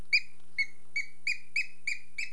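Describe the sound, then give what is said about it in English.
A squeaky book squeaks about seven times in a quick, steady rhythm, each squeak short, high and whistly, with no talking. “That book squeaks.”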